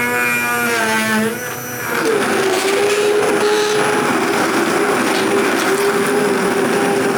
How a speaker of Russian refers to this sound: Сейчас мы блендерим, делаем суп-пюре.